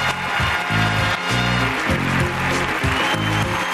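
A studio crowd claps and cheers for the Cabba Radio show on CITR in a dense, steady wash of applause that holds at full loudness throughout, with a pulsing low rhythmic thump running underneath and no one speaking.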